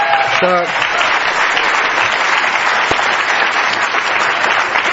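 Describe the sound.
A crowd applauds steadily for several seconds, a dense wash of clapping hands that stays loud and even throughout, with a brief voice heard near the start.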